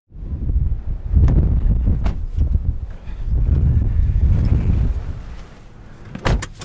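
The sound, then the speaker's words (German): Strong wind at the Cape of Good Hope, by the sea, buffets the microphone in heavy, rumbling gusts that swell and fade over several seconds, with a few sharp bumps and crackles from the buffeting. “Boah, das ist windig.”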